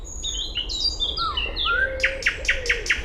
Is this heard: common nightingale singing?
yes